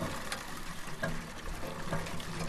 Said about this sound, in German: Ein Stück weiter pumpen mehrere Mädchen und junge Frauen Wasser aus einem metallenen Hahn und füllen es in bunte Kanister.